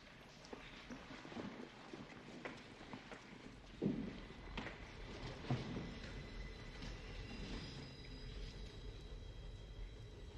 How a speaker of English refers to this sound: What's that? What's what? Sounds like a train. These lines have been abandoned for 50 years.